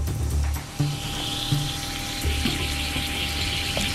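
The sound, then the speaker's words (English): Lithium metal fizzing in a glass of water: a steady hiss with soft low bubbling pulses every second or so, and a faint background hum. No one speaks. “And matter of fact, here's what happens to lithium if you put it in a glass of water.”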